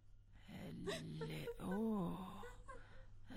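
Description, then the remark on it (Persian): A young woman sobs and wails, her voice rising and falling in a drawn-out, quavering moan with catching breaths, fairly loud over a low steady hum. “دختر جوان، خود تو چرا گریه میکنی ها؟”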